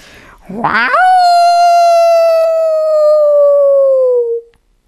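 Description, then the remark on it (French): A person imitates a wolf howl, rising sharply from a low start into one long, loud, sustained wavering note that slowly falls before cutting off. Nothing else is heard. “Waouh! Je suis le plus cruel des loups.”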